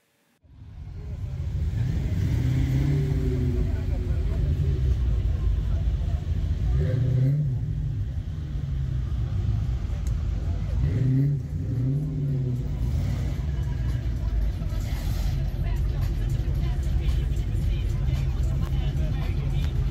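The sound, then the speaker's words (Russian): Big American car engines rumble loudly at the American Spirit summer festival on the airfield near Druskininkai, Lithuania, with a couple of deep revving surges rising and falling over a steady idle, while a faint crowd murmur sits underneath. “Во время традиционного летнего фестиваля American Spirit летное поле возле Друскининкая становится той самой, настоящей Америкой, 51-м штатом, где только подлинные американские автомобили, главный символ США.”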